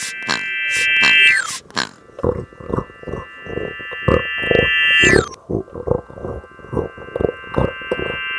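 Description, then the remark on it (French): A chorus of pigs, Ulysses' companions turned into pigs by a sorceress's magic wand, grunts in quick, rhythmic bursts, with a couple of high, sliding squeals cutting through above a steady humming tone. Fairly loud, with no talking. “Ulysse, tous nos compagnons ont été transformés en cochons d'un coup de baguette magique d'une sorcière.”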